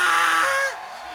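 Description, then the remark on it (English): A loud, piercing shriek from people erupts for well under a second, harsh and high-pitched, then cuts off into a quieter, fading tail. No speech accompanies it. “Let me hear you like shrieking.”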